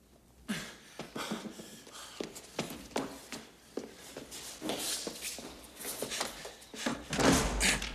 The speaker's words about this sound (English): He closes another door and looks out of the window.